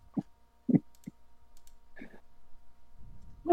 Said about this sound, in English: Hold on. Let me get the golf clap. Yep.